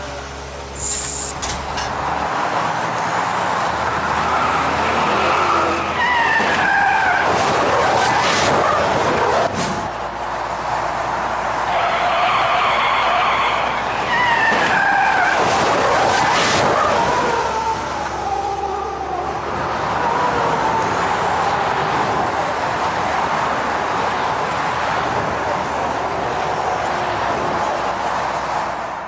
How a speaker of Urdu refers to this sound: دیکھا آپ نے وہ سڑک پر جو گاڑیاں اسموتھ چل رہی ہیں اس میں ایک بہت تیز رفتار کار نے کیسا ہٹ کیا. جلدی پہنچنا ہے, ریس لگا رہے ہیں